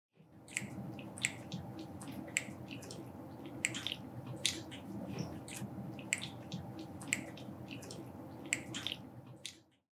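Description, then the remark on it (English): A colobus monkey making a steady series of sharp, dry clicks, roughly two per second at an uneven rhythm, over a low, continuous rumbling background. “Colobus often make this clicking sound.”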